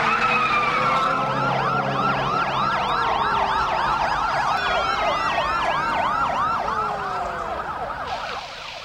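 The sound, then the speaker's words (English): Several police sirens wail and yelp at once as police cars barricade the streets surrounding Nakatomi Plaza, overlapping in rapid rising-and-falling sweeps, loud over a low traffic rumble, easing slightly in the final second. “Police cars barricade all the streets surrounding Nakatomi.”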